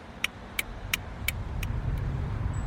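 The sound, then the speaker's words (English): A car's low engine rumble fills the scene as it slows to a stop, with a row of evenly spaced sharp clicks that grow fainter and die away. “Driver, stop the car.”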